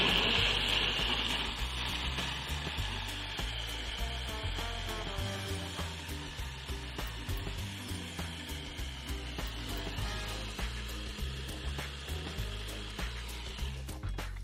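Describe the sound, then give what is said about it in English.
A food processor whirs steadily and loudly as it blends frozen blueberries, its droning motor layered with a rapid, gritty rattling of hard fruit for about fourteen seconds, with no talking. “And again, you may need to adjust the water to your berries and your processor”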